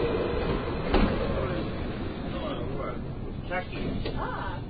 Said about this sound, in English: This train is pulling up, there's a dog on the train. That's always fun.